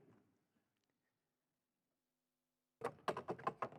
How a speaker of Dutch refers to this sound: Maar ik ga beginnen met die stoelen, die ga ik eerst even pakken. Die staan hier.